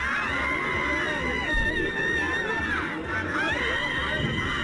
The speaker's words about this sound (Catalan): També he pensat que podríem tripular a la dona aquella que va cridar molt fora a Plaça Sant Jaume, sí. Vestida amb una bandera espanyola.